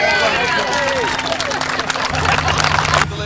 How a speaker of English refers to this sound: Give the young man a round of applause.